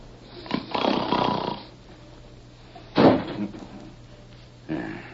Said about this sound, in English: What was that? Sounded like the wind caught a hold of a door and slammed it shut.